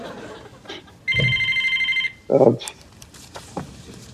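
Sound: house telephone ringing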